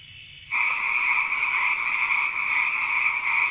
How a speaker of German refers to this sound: Grillen und Frösche.